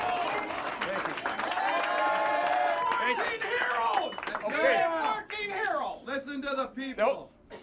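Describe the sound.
A crowd applauds steadily as a state senator steps up to a podium, amid a jumble of cheering and chattering voices, the clapping thinning out as one person begins speaking toward the end.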